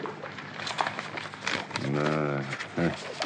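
Crisp crinkling and rustling of old paper documents, just taken out of a bottle, being handled and unfolded, with brief crackles, followed by a short vocal sound partway through.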